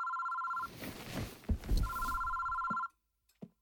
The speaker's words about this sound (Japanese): 誰からの電話だ？友達か。お前を心配してくれてるなんていい友達じゃないか。